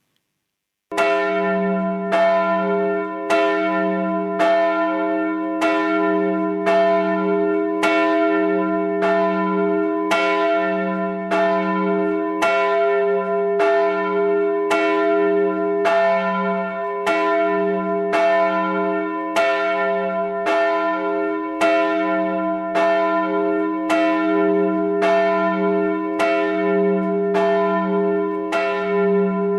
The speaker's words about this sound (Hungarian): a Jász Alsó Szentgyörgyi Katolikus Templomnak a nagy harangját, ami 900 kg-os, és az idős mester Gombos Lajos 1999-ben öntötte, 117 cm alsó átmérő és E alaphangú.